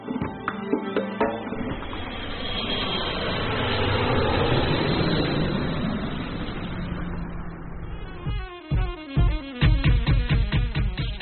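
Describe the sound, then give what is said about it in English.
An airplane's engines roar up into a loud, steady rush of takeoff noise that swells and then gradually fades, giving way to a few seconds of rhythmic music at the end. “Now fasten your safety belt. The plane is taking off.”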